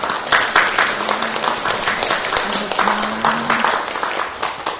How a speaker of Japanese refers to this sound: お帰りなさい、皆さんで拍手。